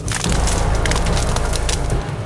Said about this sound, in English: The day wore on, and night began its descent. Soon the party heard the distinct cracking of branches.